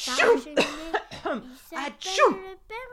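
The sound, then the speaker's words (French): Santa Claus (Père Noël) sneezes repeatedly in his house, about six loud bursts in quick succession, each a sharp breathy burst trailing into a voiced, wavering tail. “Le pauvre Père Noël, il éternue.”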